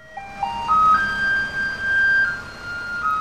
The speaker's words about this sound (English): Now, that is a musical garbage truck in Taiwan, a Pied Piper of recycling.